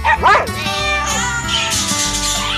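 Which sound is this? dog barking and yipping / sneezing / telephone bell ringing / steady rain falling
dog barking and yipping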